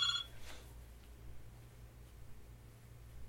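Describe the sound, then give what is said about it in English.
A fax machine rings once, a short electronic trill at the very start, fairly faint, then fades into a steady low hum and quiet background noise with no talking. “That could be a fax machine ringing.”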